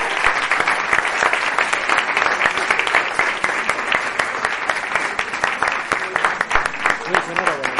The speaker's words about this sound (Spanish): Y sin él esto no habría sido posible. Un aplauso. Así que para él.